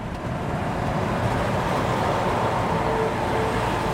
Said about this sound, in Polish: Drugi pomiar. Z prędkością 90 km na godzinę wyprzedzamy samochód jadący 80. Pomiar drugi 40 sekund, a to znaczy, że pokonałeś odległość równo 1000 metrów.